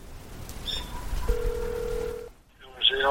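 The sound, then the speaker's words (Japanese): A phone call to the number written at the entrance of a 1929 chapel of Dudong Church rings through on the line: a single steady electronic ringback tone held for about a second, preceded by a short beep and followed by a brief crackle as the line connects. “その理由が分からず、礼拝堂の入り口に書かれた番号に電話をかけてみました。”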